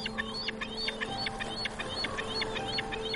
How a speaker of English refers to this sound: You're hearing kind of the chittering of bald eagles, kind of the screaming and the screeching of gulls.